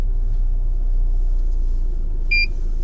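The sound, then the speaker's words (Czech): A short, clear electronic beep from a toll transponder box inside a car sounds once near the end, as the car stops first in line at an electronic toll gate lane marked ENC, ringing out over a steady low rumble of the car interior. “Krabička nám pípla, vidíme nájezd, můžeme jet dál.”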